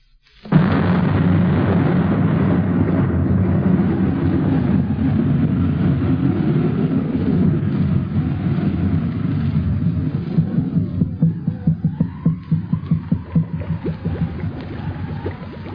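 A loud, deep thunder rumble from an approaching thunderstorm rolls in suddenly and keeps growling for over fifteen seconds, turning into a series of heavy pulsing rolls toward the end, with no voices.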